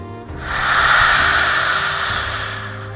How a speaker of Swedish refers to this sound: Andas in med näsan. Öppna munnen, ut med tungan, andas ut. Fyra gånger till.